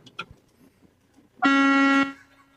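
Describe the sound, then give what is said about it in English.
A single loud, sustained big truck horn blast lasting about half a second, rich and harmonic, preceded by faint clicks and low background rumble. “Gray Niner, we need a honk. We need a big old honk.”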